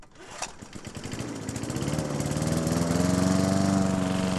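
A gas lawn mower engine runs steadily while mowing grass, its loud rumbling drone rising in pitch and volume as it revs up, with no one speaking.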